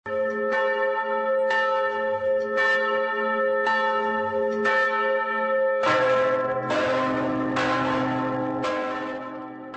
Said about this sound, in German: Am Sonntag um 18 Uhr erklangen in ganz Tschechien die Glocken